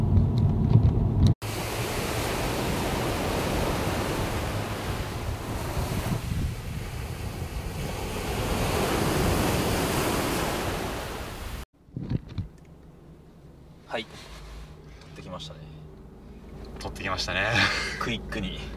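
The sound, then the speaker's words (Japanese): Ocean waves wash steadily onto a sandy beach at sunset, with few people around, a loud continuous surf roar mixed with gusty wind buffeting the microphone, then dropping away to a quieter stretch with faint voices. “でもめっちゃ夕日綺麗だった ね、 はい、 しかも人もそんなにいなくて、砂浜すごい綺麗だったから”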